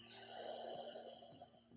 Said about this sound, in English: Just going to take a deep breath through the nose, inhaling. If you remember the breathing in yoga, deep breathing through the nose.